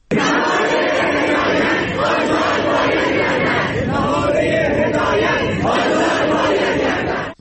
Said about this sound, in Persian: دانشگاه پلی‌تکنیک امیرکبیر در اعتراض به نامشخص بودن عاملان آن واقعه و همچنین شرایط فعلی کشور تجمع، تظاهرات و شعارهایی سر دادند.